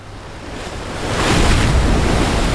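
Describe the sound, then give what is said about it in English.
Ocean surf rolls in with a steady roar as a wave builds and breaks, swelling louder midway, while wind gusts rush across the microphone throughout. “I used to love the sea.”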